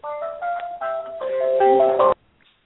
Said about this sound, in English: My goodness. That must have been her phone.